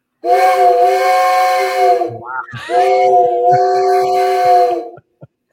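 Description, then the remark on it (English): An old tin train whistle, played at a museum, gives two long, steady, reedy blasts with a brief break between them, loud, ending with a small click. “But we'll do a cool old train tin whistle here, okay? So we'll play that for you.”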